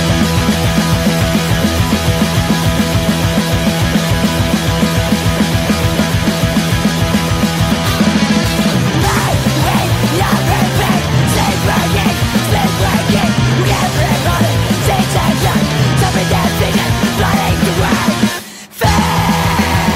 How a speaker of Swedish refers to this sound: Kanske lite för skrikigt för mig, men gitarren är ju svingoda liksom. Ja, det är fan stökigt, men det är det som är gött.